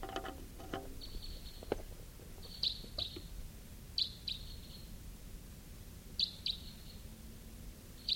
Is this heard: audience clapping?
no